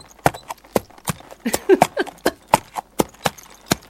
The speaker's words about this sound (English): I call this the clip-clop walk. I love that sound myself. It's just, it's delightful.